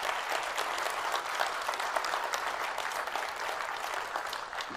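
A crowd applauds steadily for several seconds, a dense wash of many hands clapping at an even, sustained level with no voices standing out.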